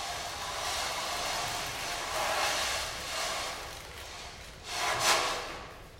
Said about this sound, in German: Es raschelt und es knistert.